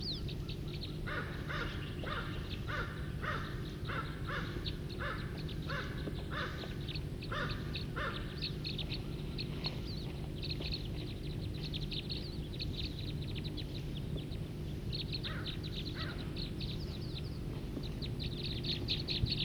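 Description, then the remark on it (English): A flock of about 5 to 10 birds calls repeatedly from a tree, harsh crow-like caws in quick rhythmic bursts over a steady low hum, with a fresh cluster of calls near the end. “There's about 5 or 10 birds here in a tree right here, calling.”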